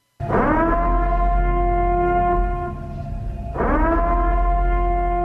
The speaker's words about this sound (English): When Ethan Hawke is closing the gates, right, there was a siren. And I'm going to play the siren for you just so you can refresh your brain what the siren sounded like. And this announced the start of Purge.